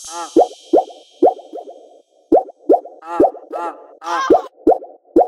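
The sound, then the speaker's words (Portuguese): Water plops and splashes in a steady, repeating rhythm, about a dozen hollow, bubbly drops with a faint hiss at the start and no voices. “Olha o barulho da água.”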